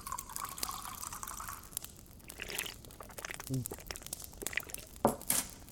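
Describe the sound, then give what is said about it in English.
Wine pours into a glass: a steady, gurgling trickle whose pitch shifts as it fills, followed by a few soft drips and light clinks. “More wine?”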